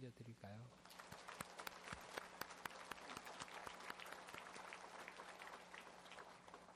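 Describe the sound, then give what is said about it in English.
A crowd applauds in praise and thanks to God on the last Sunday of the year, in a dense, steady burst of clapping that holds at an even level throughout, with a brief voice at the very start. “Let us give a round of applause of praise and thanks to God.”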